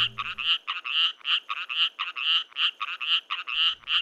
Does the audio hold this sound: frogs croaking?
yes